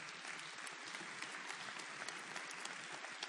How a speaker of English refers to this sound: If you're one of our adult team coaches, would you stand up? A lot of them are wearing these blue t-shirts today. Yeah, you could clap for them.